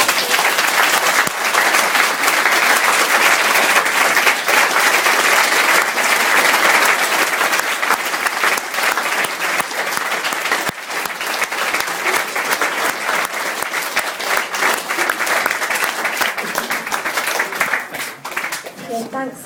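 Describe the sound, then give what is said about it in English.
Sustained applause at a Narcotics Anonymous meeting after a member's share, a dense, steady wash of many hands clapping that holds loud for nearly twenty seconds before thinning slightly at the end. “NA, we celebrate clean time with keyrings, claps and hugs, and for that I'm going to hand it back to tonight's sharers again.”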